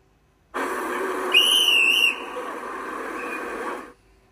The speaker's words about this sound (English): A man blew a whistle.